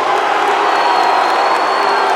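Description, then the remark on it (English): A huge concert crowd of St. Louis people screams "Chicago" together in a loud, sustained roar that fills the whole moment without letup, many voices blending into one dense wall of sound. “You guys to know, since it is baseball season, as a Cubs fan, it's so great to hear so many St. Louis people scream Chicago!”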